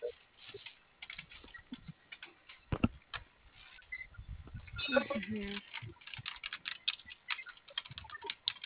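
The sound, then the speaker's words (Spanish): Rapid, uneven clicking of someone typing on a computer keyboard, fairly quiet, continuing throughout with short bursts and pauses, and a brief murmur of voice partway through. “Ahí está prendido el teclado.”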